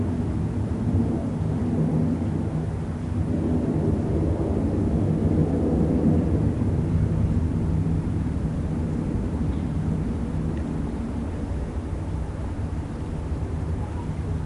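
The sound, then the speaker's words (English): A steady, heavy rumble of aeroplanes passing overhead, a continuous low roar that holds at a fairly loud level throughout with no clear break or other sound. “I'm afraid we'll have to bear up with this noise of the aeroplanes for a while.”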